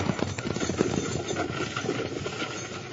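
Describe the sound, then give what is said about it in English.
Horses set off at a run amid a busy rumbling wash of sound, hooves clopping in a quick, uneven rhythm that stays fairly loud for the whole stretch. “Start your horses and run for it”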